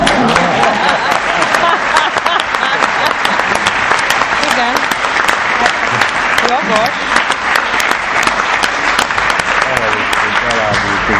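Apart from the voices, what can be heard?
audience applause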